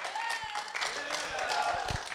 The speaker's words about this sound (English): Yeah. Come on, we need a big clap in that.